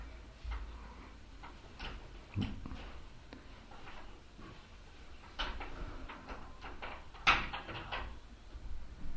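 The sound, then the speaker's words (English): A door and windows being opened: scattered clicks and a few sharper clunks of latches and frames, against a quiet background with no one speaking. “We can open this door and these windows, this window and the door and those windows, get some breeze.”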